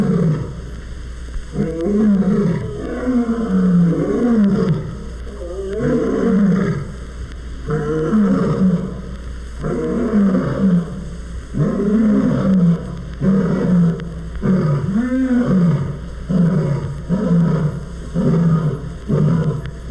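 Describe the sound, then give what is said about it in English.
A series of deep, rumbling roars from lions after feeding repeats in steady bouts, the grunting calls rising and falling with no talking over them; at the end, two new cubs give squeaky little roars as they imitate their parents. “After feeding, lions sometimes enjoy a roaring session.”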